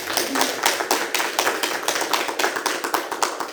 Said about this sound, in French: On peut l'applaudir. On peut l'applaudir.